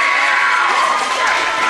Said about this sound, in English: A roaring ovation from the hula skirts on the far side. Yeah, the hula skirts are having a great time.